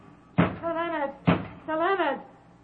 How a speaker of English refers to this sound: Open this door. Who knocks?